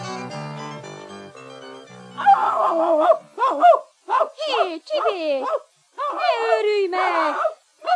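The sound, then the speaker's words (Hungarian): After a couple of seconds of steady tones, a dog named Csibész, which has seen a cat, breaks into loud, excited barking and yelping, a rapid string of high-pitched bursts with short gaps, continuing to the end. “Ez a lárma! Mi történik?”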